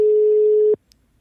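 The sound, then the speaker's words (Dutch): A phone call's ringing tone while calling a mobile phone: one steady, fairly low electronic beep lasting under a second, cut off abruptly and followed by near silence with a faint click. “Dan ga ik straks nog haar mobiel proberen te bellen.”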